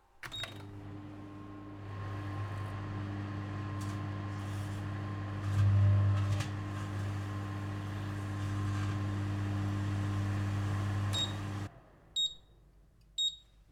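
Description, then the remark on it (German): A microwave oven hums steadily for about eleven seconds while heating two grapes cut in half, with a few faint crackling pops along the way, then shuts off and gives a short series of high-pitched beeps. “Ich gebe jetzt diese Weintrauben in den Mikrowellenherd.”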